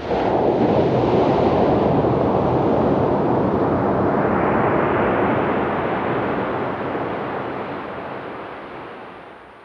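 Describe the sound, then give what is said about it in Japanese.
Calm ocean waves wash steadily onto the beach at Isohama Coast in Yamamoto Town in a continuous, broad roar of surf, loud, slowly easing off toward the end with no voices present. “山本町磯浜海岸でした。”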